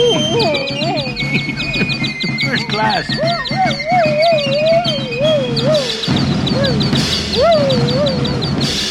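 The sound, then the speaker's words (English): Two canaries chirp in quick, high, repeated trills throughout, busy and constant, while a dog barks and yelps with wavering lower cries underneath; a voice briefly speaks. “Two canaries and a dog are so much trouble.”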